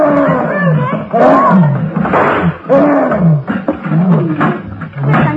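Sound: gorilla roaring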